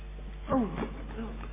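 A parakeet lets out a brief, scratchy burst of chattering, two quick warbling calls, over a steady low hum with no one talking.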